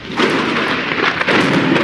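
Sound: thunder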